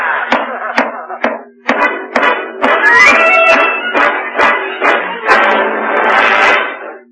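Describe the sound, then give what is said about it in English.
A broom handle pounds from the attic on the ceiling of the room below in a steady series of loud, sharp thuds, about a dozen blows spaced roughly half a second apart, with a sustained tonal hum continuing underneath. “I'll go up to the attic and pound on the ceiling of his room all night with a broom handle.”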